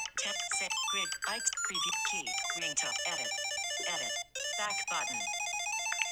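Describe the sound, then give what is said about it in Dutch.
A bright electronic ringtone previews on a phone while a ringtone is being chosen in its settings, a quick melodic run of chiming notes with sustained tones, moderately loud, continuing steadily for several seconds without anyone talking. “Een aantal tonen waar je kan kiezen eigenlijk die wil toe was.”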